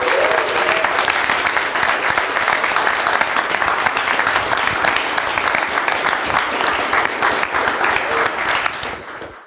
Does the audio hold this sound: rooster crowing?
no